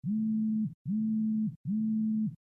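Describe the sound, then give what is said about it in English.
A device plays three identical steady electronic beeps, each lasting about half a second with short gaps between, at a low-mid pitch and fairly loud. This is a unit's unique indication tone sequence, such as a turn-on or low-battery warning. No voices are heard. “In both speech and tone modes, other indications, such as turn on or low battery warnings, are in the form of unique tone sequences.”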